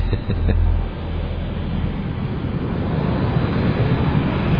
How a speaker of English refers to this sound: Wrong kind of airplane.